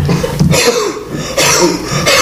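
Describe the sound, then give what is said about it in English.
A voice imitates a hog coughing: three harsh, raspy bursts spaced evenly about a second apart, loud, with no talking in between. “But anyway, it actually is a hog, you know, just coughing.”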